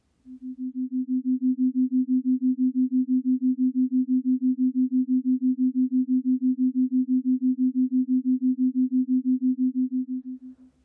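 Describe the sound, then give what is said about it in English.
Two steady, low, pure tones, one of 262 cycles per second, sound together as a binaural beat whose frequencies differ by 6 cycles per second (theta), creating an even, rapid throb that holds for around ten seconds with no voices. “So finally, we played these two tones together at the same time.”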